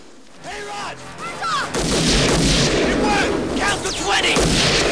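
gunfire

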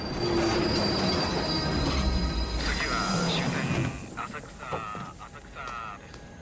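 train pulling into station

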